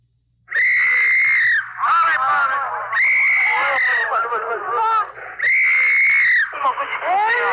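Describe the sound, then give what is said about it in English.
Infants sob and wail loudly in Korea during the fall of a city, their high, strained cries rising in three long, quavering bursts with shorter broken sobs in between. “Your ear is tuned to Korea and the fall of a city, to the dissonant sounds of an MP's whistle and sobbing infants.”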